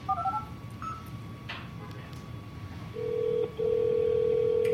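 A mobile phone, voice-dialing a call after its send button is held down, dials with a few quick electronic beeps, then rings out with a steady, mid-pitched ringback tone that pauses briefly and resumes, over a low background hum.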